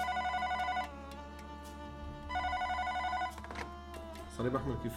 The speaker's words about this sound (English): On a Sunday morning during a weekend shift, my team and I were sitting at the station having breakfast as usual. Then the phone started ringing.